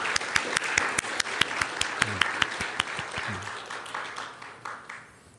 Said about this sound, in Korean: 또 우리 함께 찬양에 참여한 우리 공동체의 하나님 은혜가 함께 하기를 기도하며 참 다시 한번 하나님께 영광의 박수로 돌려드렸으면 좋겠습니다.